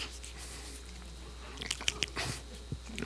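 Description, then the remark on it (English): A voice imitates someone chewing a mouthful of food while being asked a question, with wet smacking and crunchy bites clustered toward the end, over a quiet low hum. “See, because they're embarrassed, they've been caught chewing their food.”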